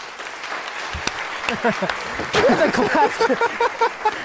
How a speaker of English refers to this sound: We just had the claps going the whole show. Just averaged out.